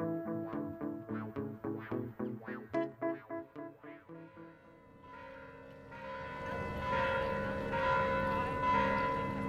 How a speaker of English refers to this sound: The bells are ringing here at Mission San Juan Bautista, where we began our episode.